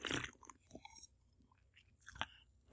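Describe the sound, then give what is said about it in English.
Quiet mouth noises of someone sipping a Diet Dr. Pepper: a brief slurp, soft wet clicks and a gulp, then a sharper smack at the end, with no talking. “I'm going to pause to take a sip of my cool, refreshing Diet Dr. Pepper, and that'll give me time to think.”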